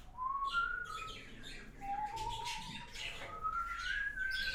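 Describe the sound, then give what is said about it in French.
Several birds chirp and tweet outdoors in trees, heard from a sunny terrace, with thin whistled notes rising and sliding over a busy chorus of quicker calls. The birdsong is steady and moderately loud, with no talking. “D'ici, je vois les arbres, les chats qui passent, j'entends les oiseaux.”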